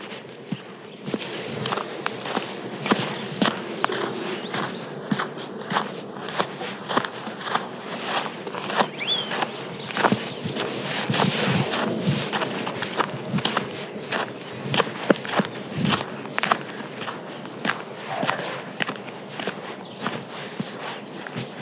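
Footsteps walking outdoors in a meadow, a steady run of crunchy, irregular steps that continues throughout, moderately loud over a soft, constant background hiss with no talking.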